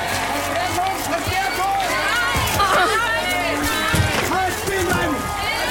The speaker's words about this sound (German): Und wir haben immer neue Polizeiketten, die sich formieren. Und jetzt rennen wir auf einen zu, let's go!